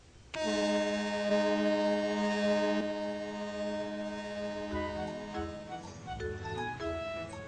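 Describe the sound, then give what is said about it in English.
A ferry boat horn blasts loudly and steadily for about two and a half seconds as the boat nears the shore, a deep harmonic drone, followed by a continuing lower tonal hum and some faint clatter. “And when they got close to the shore, he even let Caillou blow the horn.”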